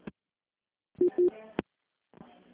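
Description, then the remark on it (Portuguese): Two short, steady mid-pitched beeps of a phone disconnect tone sound over the line after a dropped call, with brief muffled voice fragments and clicks around them. “Acho que foi pro pau, hein?”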